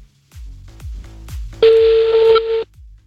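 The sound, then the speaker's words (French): A loud, steady telephone tone sounds for about a second, the kind heard when placing a call, over a repeating pattern of deep, soft thumps; no one speaks. “On appelle le troisième maintenant, c'est on parti.”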